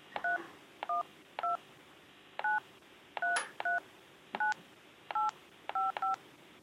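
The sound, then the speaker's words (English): Ten touch-tone keypad beeps dialing a Sprint phone number, area code first, into an automated phone line; each a short clear dual-tone chirp, pressed at an uneven pace with brief pauses and a quick double press near the end, with no talking. “What's the Sprint phone number you are calling about? Area code first.”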